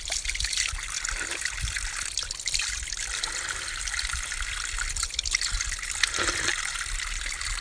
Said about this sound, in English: I love the way this water just comes out.